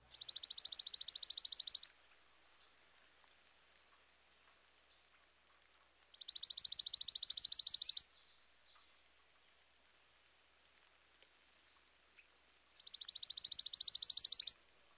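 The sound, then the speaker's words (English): A chipping sparrow sings a rapid, dry, mechanical trill three times, each about two seconds long and separated by several seconds of quiet. The bird sounds clear, with no talking. “Now here's the chipping sparrow. His song is a rapid, dry trill.”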